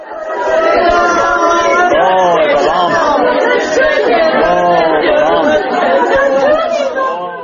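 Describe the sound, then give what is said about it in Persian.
Many relatives wail and cry together in a continuous, overlapping chorus of rising and falling pitched laments, loud and unbroken throughout, behind the coffin of Tajik labor migrant Shahin Muhibov at his funeral in his hometown of Panjakent on a Sunday. “ناله و فغان پیوندان شاهین موهیبوف یک مهاجر کاری را از پی تابوت او می شنیدید که روز یکشنبه گذشته در زادگاه شهر پنجکن به خاک سپاریده شد.”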